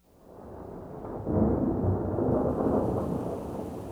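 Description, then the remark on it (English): Steady rain falls with a deep, rumbling roll of thunder that swells after the first second and lingers, broad and fairly loud, with no voices. “One day, an ant was caught in the rain.”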